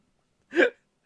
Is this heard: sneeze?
yes